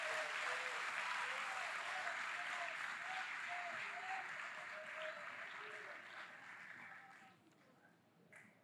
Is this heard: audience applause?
yes